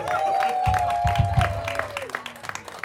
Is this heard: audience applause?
yes